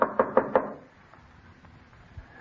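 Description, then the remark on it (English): Four sharp knocks on a house's front door in quick, even succession, fairly loud, knocking because the doorbell is out of order, followed by quiet with faint background rustle. “Where's that blasted bell? Oh, it was out of order when I was here. I had to knock.”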